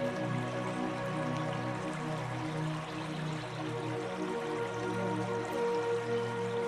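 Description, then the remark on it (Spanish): A steady, continuous rush of flowing river water with soft bubbling and dripping textures, holding an even level throughout, with a faint sustained tonal hum beneath it and no voices. “Tumbarte frente al río y dejarte arrollar por su tranquilizador sonido.”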